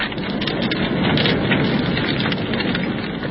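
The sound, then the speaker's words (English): A large bonfire crackles and roars steadily as a straw-covered guy effigy soaked in paraffin burns on a night without rain, a dense, continuous hiss of snapping and popping flames for a few seconds, with no voices. “There goes the guy, sir. See how well it burns? I soaked it in paraffin to make sure.”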